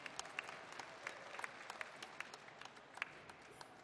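An audience applauds as a guest is welcomed on stage, with dense, steady clapping from many hands, a continuous crackle of overlapping claps with a few sharper ones standing out, fairly soft throughout and with no one speaking.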